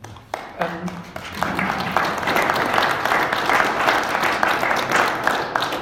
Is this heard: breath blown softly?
no